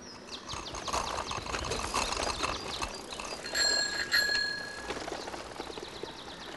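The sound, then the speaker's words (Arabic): A bicycle bell rings out clearly on a bicycle ridden by a girl with a dog in its front basket, a quick bright double ding ringing in the middle, over a steady background of rattling, ticking outdoor noise. No one speaks. “ركبت البنت الدراجة ووضعت الكلب في سلة الدراجة التي أمامها.”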